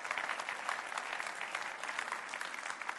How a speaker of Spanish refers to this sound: Amén. Un aplauso a su Dios.